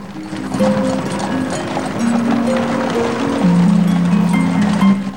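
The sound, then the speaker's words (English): Horse hooves clip-clop steadily as a horse-drawn carriage travels through a snowstorm in the evening, a continuous rhythmic clatter set against low sustained musical tones, with no talking. “Crows fly above a horse-drawn carriage that's travelling through a snowstorm in the evening light.”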